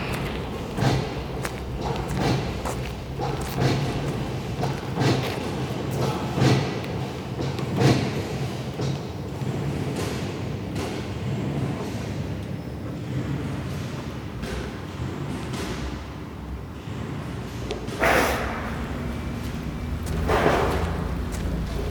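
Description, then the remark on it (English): A forklift truck drives around with a steady low engine rumble, broken by irregular thumps and clanks and a few louder bursts of noise; no one speaks. “I can hear the movements of a forklift truck driving around, the beep of its reversing alarm.”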